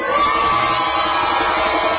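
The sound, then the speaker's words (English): A large crowd in Boston cheers and shouts at full volume, a dense, steady roar of voices with high whoops and yells rising over it for the whole two seconds, at an event marking the 50th anniversary of the arrest of civil rights activist Rosa Parks. “Now let's make some noise for Rosa.”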